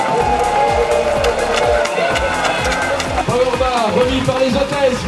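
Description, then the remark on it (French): Spectators applaud the first leader of the general classification in a steady, dense wash of clapping, mixed with crowd noise while several voices talk loudly over it throughout. “les applaudissements et le sourire”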